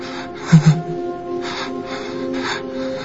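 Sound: person gasping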